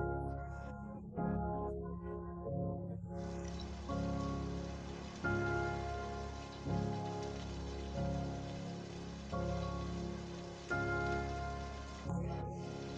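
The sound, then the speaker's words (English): Steady rain hisses in as a continuous wash after a few seconds, sitting beneath slow, soft musical chords that change every second or so; no one speaks. “When you stop for a few minutes watching the rain, you realize that your body feels heavier than usual.”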